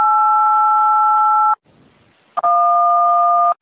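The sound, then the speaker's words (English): Two long, loud telephone keypad tones, each a steady dual-pitched beep lasting over a second, separated by a brief pause with faint background noise, heard alone, from a participant's phone on a call-in meeting. “Is someone learning to use your phone? Do you want to mute #1?”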